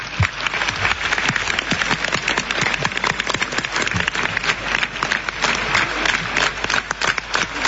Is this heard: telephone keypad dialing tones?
no